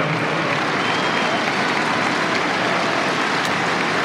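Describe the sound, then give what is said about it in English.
A tennis crowd at a Djokovic–Fonseca match applauds steadily after Djokovic concedes a point, a dense wash of many hands clapping at even loudness throughout, with no voices standing out above it. “Appreciative response from the crowd, and that's what I do like about Novak Djokovic.”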